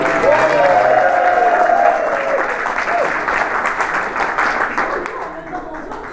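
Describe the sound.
Loud, dense applause from a crowd, a steady wash of clapping that holds strong, with faint voices and cheers mixed in, then gradually thins slightly toward the end.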